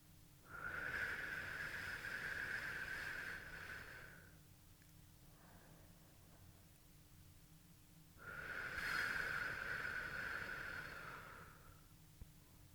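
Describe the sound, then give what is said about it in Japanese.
Two long, breathy blows of air from a woman, each lasting about three or four seconds with a pause between, a soft rushing hiss blown into the listener's ear with no talking. “耳に息を吹きかけられるのは嫌いじゃないようですね。”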